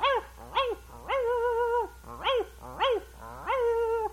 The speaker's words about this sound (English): Got a lot of dogs.